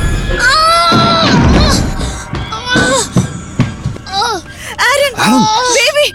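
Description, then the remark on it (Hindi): A boy at a piano suddenly cries out in pain as if from a shock, a long loud wail followed by a string of sharp, rising and falling yelps and moans, strained and high-pitched, with no words spoken. “तभी अचानक जैसे उसे शॉक लगता है और वो चिल्लाता है।”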